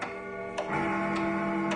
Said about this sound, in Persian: انگار دوباره داره یه صداهایی میاد. تا اونجا که یادمه شیر آب بسته شده بود. پس این دیگه صدای چیه؟ آخه این دیگه از کجا پیدا شد؟ این صدای ساعت شماته داری. داغونت میکنم وایسا. انگار این صدا از صدای شیر آبم بدتره.